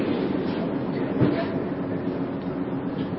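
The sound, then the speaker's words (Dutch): A steady low rumble fills the inside of a moving train in Amsterdam, constant and fairly loud throughout, with a faint rattling texture and a brief clunk near the middle. “Eindelijk rustig in de trein zitten.”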